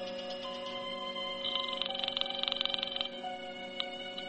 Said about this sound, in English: I was going to phone the El Paso police and tell them where I'd last seen the man answering the description of the Abilene bank robber. I dialed and waited for her to answer.